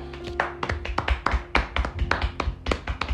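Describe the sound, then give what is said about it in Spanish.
Brisk, uneven hand clapping, a few people applauding the start of a show's second season for about three seconds, with sharp, loud claps overlapping in a quick irregular rhythm and no voices over it. “Por favor, hermano, aplausos.”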